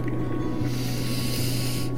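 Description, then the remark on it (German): A deep, drawn-out snorting breath, fairly loud, rushing steadily for about two seconds with a low rumbling undertone and no talking. “kratzte sich an seinen bunten Punkten auf der Nase und schnaufte tief durch.”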